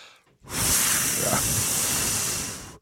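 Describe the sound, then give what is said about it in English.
A garment steamer wand, being wielded by a person, lets out a steady, loud hiss of steam for about two seconds, starting abruptly and cutting off at the end, with no talking over it. “I forgot to mention another sound that the steamer makes after it's, it starts, the boiling. Then when she starts wielding the wand, it goes...”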